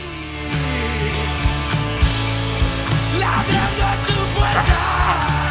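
A rock chorus belted out at a raw shout over a loud, dense band, with heavy drum hits punctuating the strained, yelling vocal as it builds toward the end.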